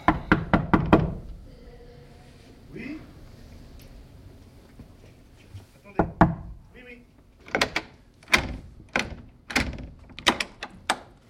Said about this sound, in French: La frappe à la porte. Pourquoi moi ? Parce que moi, je risque de pas m'arrêter de frapper quand il aura ouvert.